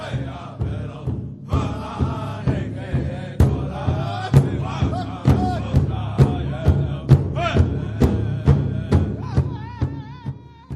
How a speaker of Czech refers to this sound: Sotva se mu to daří, slyší z břehu ječení a pokřik zklamaných indiánů, kteří jeho slovy znějí jako hejno čertů.